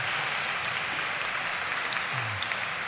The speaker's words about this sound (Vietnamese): Giỏi, một tràng pháo tay cho bạn nhé.